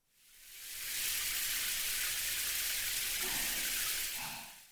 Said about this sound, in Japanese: まずは、シャワーで体を流しますので。